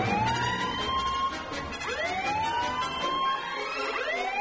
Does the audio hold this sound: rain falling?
no